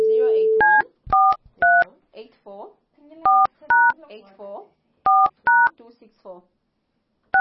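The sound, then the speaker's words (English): A brief steady tone gives way to about eight short two-tone telephone keypad beeps as a phone number is dialed, clear and spaced irregularly in small groups, with a murmuring voice filling the gaps between presses. “The number you have dialed is wrong. Please try again.”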